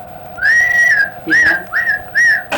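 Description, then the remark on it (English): A person whistles a signal to call horses: one long, steady note followed by three shorter rising-and-falling whistles in quick succession, loud, over a faint steady background hum. “Some kind of call like that. Yeah. But his whistle would. They'd come running.”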